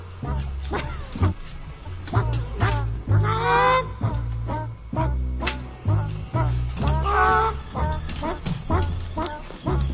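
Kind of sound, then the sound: bird, chickens clucking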